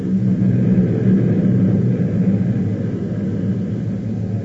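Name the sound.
plane taking off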